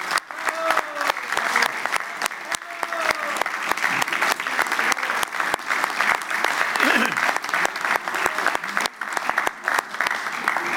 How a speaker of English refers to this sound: If I can have colleagues' indulgence just for a moment, I hope everyone would join me in saying thank you and giving a round of applause to